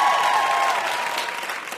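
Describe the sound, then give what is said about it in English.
A crowd on the show Ask Me Another applauds steadily for VIP guest W. Kamau Bell, a dense wash of clapping that holds loud throughout and eases off only slightly toward the end, with no talking over it. “Let's hear it for our VIP, W.”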